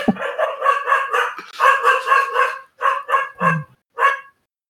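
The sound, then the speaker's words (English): A dog barks loudly in a rapid series of sharp, harmonic yelps, about eight or nine barks in quick bursts with short pauses, no talking. “I don't know what my dog's barking at, but he's loud.”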